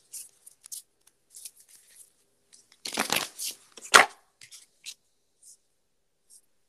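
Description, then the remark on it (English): Papery flicks and soft ticks of a deck of cards being shuffled, building to a brief louder riffle in the middle, then a few scattered taps fading out. No one speaks. “So with that, I'm going to go ahead and shuffle.”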